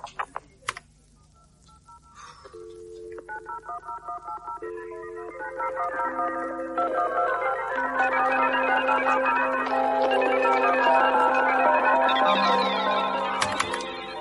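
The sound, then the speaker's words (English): A few sharp clicks, then a telephone ringing in repeated electronic tones that build into a dense, sustained, layered ring, fairly loud, with no voices, as an 86-year-old woman phones the operator service. “Oh, I'll phone the services again.”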